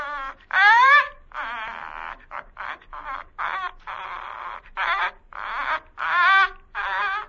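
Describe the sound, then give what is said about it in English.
A caged bird utters strange, imitative sounds: about a dozen squeaky, warbling bursts in an irregular run, some rising into whiny, wavering tones, with no talking alongside. “The bird was moving about in the cage now, nodding his head in a very peculiar manner, uttering the most extraordinary sounds.”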